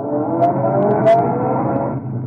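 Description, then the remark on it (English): A car engine hums and rumbles as the vehicle drives along to 612 Fairmont Avenue. Its steady drone eases off slightly near the end as it slows to pull up and park in front of an apartment building. No voices. “I pulled up to 612 Fairmont Avenue and parked in front of the typical-looking apartment building.”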